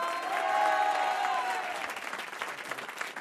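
A studio audience in the RTL grand studio breaks into steady applause for a singer, a dense wash of clapping that holds strong before easing slightly; a brief whistle or cheer rises over it early on.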